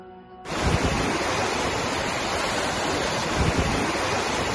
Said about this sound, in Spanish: Algunos de estos embalses se han visto obligados ya a soltar agua.